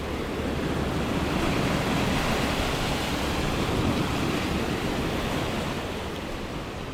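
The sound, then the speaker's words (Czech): Steady roar of grey Atlantic Ocean waves washing against a wall, a dense continuous hiss of surf with a faint rumble underneath and a touch of wind, no voices. “Šedivá voda, tak nepodobná barvě z prospektů cestovních kanceláří, vlnami naráží do zítky a šumí zvukem, který nám, suchozemcům, asi nikdy nezevšední.”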